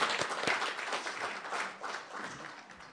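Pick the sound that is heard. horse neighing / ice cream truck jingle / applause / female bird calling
applause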